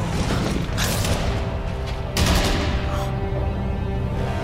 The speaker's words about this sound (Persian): هارو به چه شلیک میکنن؟ نمیدونم. قایم شو، قایم شو.